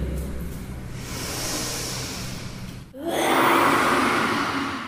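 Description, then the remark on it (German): During a breathing exercise in a children's yoga class, children breathe in together through the nose with a soft, hissing inhale, then let out a loud, breathy group exhale imitating roaring lions, a rough whooshing burst that swells and holds for about two seconds. “Jawohl, so klingen kleine Löwen, die bei einem Kinder-Yoga-Kurs mitmachen.”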